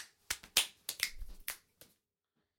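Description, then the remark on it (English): A quick run of sharp snaps and slaps, about seven crisp hits in an uneven rhythm like an elaborate handshake, then a pause and one last smack. No one speaks. “See, that was like an incredibly complicated handshake.”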